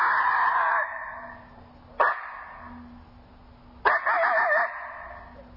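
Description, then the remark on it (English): A coyote challenge call from an electronic caller: a harsh opening yelp, then two sharp barks spaced apart, the last running into a brief wavering howl that breaks off abruptly. No talking. “You can hear it's a couple of barks and then a short howl, and then it breaks off.”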